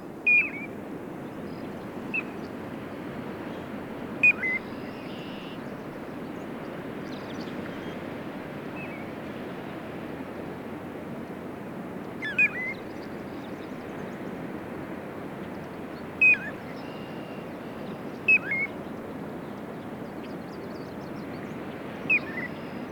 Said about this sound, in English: This has been WSHU's Bird Song Break, featuring the piping plover.